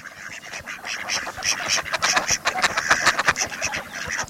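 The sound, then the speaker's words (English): A steady run of nasal mallard duck quacks, many short calls tumbling over one another as if from several birds, fairly loud and continuous with no talking. “Have you noticed a green-headed mallard standing on just one foot?”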